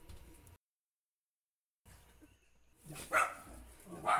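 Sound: small dog barking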